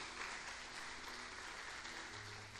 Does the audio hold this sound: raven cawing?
no